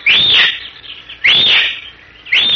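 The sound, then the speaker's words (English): Three shrill, high-pitched whistles from a horseman who has dismounted in a tiny glade surrounded by boulders, stunted trees and giant cactus, each a loud rising-and-falling sweep about half a second long, spaced evenly apart, the third cut off at the end. “He whistles three times, shrilly.”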